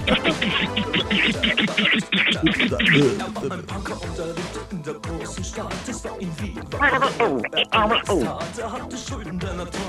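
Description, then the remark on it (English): A pop song plays from a recording, loud and continuous, with a full band and what sounds like a singing voice carrying the melody throughout. “Yes, we all hear this song.”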